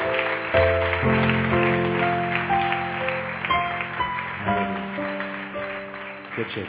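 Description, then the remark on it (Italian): A crowd claps steadily in a dense, crackling wash of applause, with sustained keyboard chords playing underneath the whole time. “Diamo un applauso a Stefano.”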